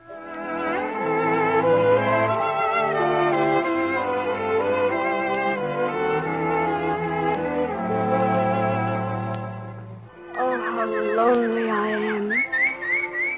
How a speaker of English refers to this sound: Hello, little bird. Are you sorry for me? At least you're free. You aren't locked in a cage as I am. Oh, well, if the birds find comfort in their song, perhaps I can, too.